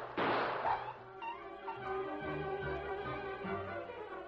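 A loud, sharp gunshot bursts out as a dog is shot, followed by the dog's drawn-out, wavering yelp and whine that continues for several seconds.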